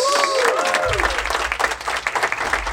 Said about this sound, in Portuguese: Salva de palmas. Obrigado, obrigado, obrigado. Valeu. Salva de palmas.